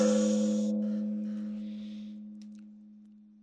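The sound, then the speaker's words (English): A single gong stroke: a bright crash at the start, then a deep, humming metallic tone that lingers and slowly fades over several seconds with no other sounds. “And honestly, it's just an excuse to use the gong.”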